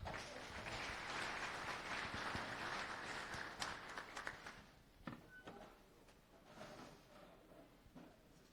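An audience claps in a dense, steady burst of applause for about four seconds, then it thins out into scattered individual claps that fade away.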